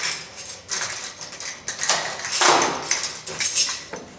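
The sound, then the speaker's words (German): Metallic jangling and clicking as a handed-over key works the lock of a well-secured door in a former telecommunications depot building, followed by a clunk and scraping as the heavy door swings open, with no one speaking. “Die Tür ist sehr gut verschlossen. So, und jetzt kommen wir durch.”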